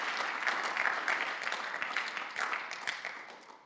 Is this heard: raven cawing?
no